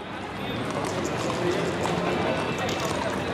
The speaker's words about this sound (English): We're hearing horse hooves and whistles and honks and bells. What's going on here? That is sort of a foggy memory of waking up on my grandmother's street.